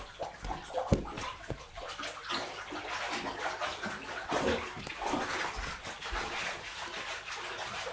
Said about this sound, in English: Splash it around now. Shake it in the water like that. That's it. Like that, and that'll make some bubbles for you.